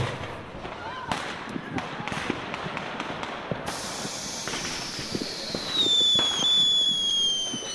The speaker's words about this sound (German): Dabei hat es die Knallerei in sich. Ein sogenannter Schweizer Kracher ist bis 116 Dezibel laut, ein Kanonenkracher oder ein Donnerschlag 120 Dezibel und ein Flashing Thunder sogar 165 Dezibel. Das ist laut.